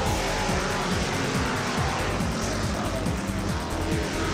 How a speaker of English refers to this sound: We went to the car races. It was dark. It was cold. It was noisy.